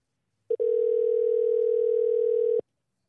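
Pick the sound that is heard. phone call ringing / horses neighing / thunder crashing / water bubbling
phone call ringing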